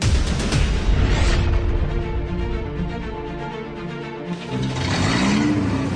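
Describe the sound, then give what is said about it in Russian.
The engine of a Volga car runs steadily with a low, continuous hum, then revs upward toward the end, its pitch climbing. No voices are heard. “Машина на ходу, бензин есть.”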